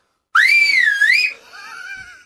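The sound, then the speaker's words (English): A loud, shrill two-finger mouth whistle, an old-fashioned dad whistle, with a wavering pitch that dips and rises for about a second, then drops to a softer, lower warbling tail before cutting off. “The old-fashioned, total classic dad mouth whistle. Are you going fingers or no fingers? I'll go fingers.”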